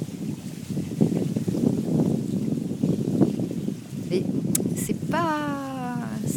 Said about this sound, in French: Il y a du vent, il y a de l'eau. Ouais. Bah, on dirait qu'il pleut en arrière fond. Ouais, moi, j'ai l'impression que j'entends de l'eau qui coule comme